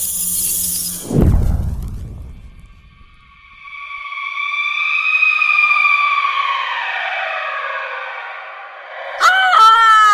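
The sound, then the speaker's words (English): A woman's long, high, wavering scream from a window rises out of a brief burst of noise, then breaks into a few short, sharper cries at the end. “I heard screams coming from our window that sounded... Oh, God, they sounded otherworldly.”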